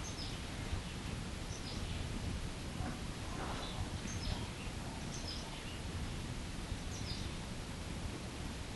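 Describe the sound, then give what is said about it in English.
Faint bird chirps sound in short, scattered bursts over a steady outdoor hiss with light rustling; no one speaks. “I offer this bird sound, I offer this.”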